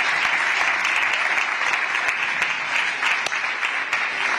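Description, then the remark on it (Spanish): A crowd claps steadily for the three football captains Nabil Fekir, Guido and Isco, a dense, even wash of many hands with scattered sharper claps poking through, holding at a strong level for the whole stretch without any voices rising above it. “Un aplauso, aquí están los tres capitanes.”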